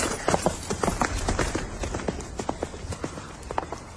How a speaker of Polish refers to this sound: Koń wówczas szarpnął i ruszył galopem